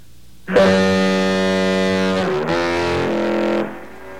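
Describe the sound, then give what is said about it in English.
An old lighthouse foghorn on an island, heard over a phone, sounds one long, droning blast of about three seconds, its deep harmonic tone briefly shifting pitch midway before cutting off. It plays alone, slightly distorted, with no talking. “let's hear that old time foghorn.”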